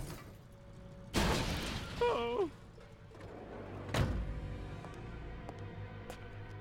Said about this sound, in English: In daytime, the scooter boy brushes dust off his delivery box, walks towards the takeaway, then the bike is smashed into by a big black van.